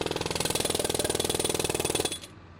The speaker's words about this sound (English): The World Ag Expo is a noisy place. In addition to the thousands of people milling about the grounds, there are trucks and equipment running on display constantly.